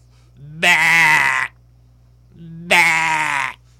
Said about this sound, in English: I opened up the GOAT door. Not the greatest of all time door. Just a literal, bah!